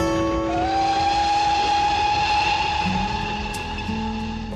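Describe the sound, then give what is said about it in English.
A miniature ride-on train rolls along its rails with a loud, steady mechanical drone and layered humming tones, continuous. No one speaks. “It also extended to trains, miniature ones that you could ride on.”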